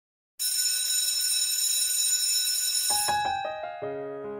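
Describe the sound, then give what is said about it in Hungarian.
A loud, bright bell starts abruptly and rings steadily, then shifts into a quick run of separate chiming tones before fading slightly. No voices are heard. “És éppen most hangzik a csengő.”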